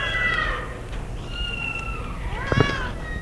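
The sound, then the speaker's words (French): A black cat meows several times inside a fifth-floor apartment, drawn-out harmonic cries that rise and fall, ending with a louder, more insistent meow, over a low steady background hum. “Une fois qu'ils sont entrés, un chat noir se faufile à ses pieds.”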